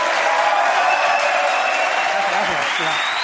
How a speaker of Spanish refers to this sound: Un aplauso para Salva Espín